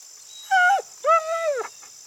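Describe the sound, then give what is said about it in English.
A dog named Max lets out two whining cries, a short one followed by a longer, wavering whimper that bends downward at the end, fairly loud, with no voices. “Good doggy. Come here, jump in. Sweet doggy, don't be scared.”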